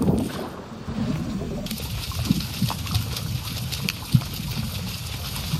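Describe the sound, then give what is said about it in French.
Underwater crackling from pistol shrimp, sea urchins and other small aquatic creatures in a protected marine zone off Le Pradet in the Var, recorded with a hydrophone: a dense, steady fizz of tiny sharp clicks over a low murky rumble, with one louder snap standing out partway through. No voices. “Alors là, c'est toute la microfaune aquatique, des crevettes pistolets, les oursins, tout un tas de petits animaux en fait, qui ont de la chitine, qui ont des crustacés, des choses comme ça”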